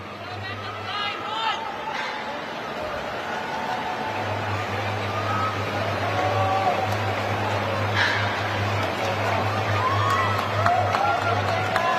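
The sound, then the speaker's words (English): A stadium crowd applauds and cheers warmly as an athlete makes her way around the track, a steady, dense wash of clapping and voices that holds for the whole stretch, with a low droning hum running underneath most of it. “Being warmly applauded as well as she makes her way around the track.”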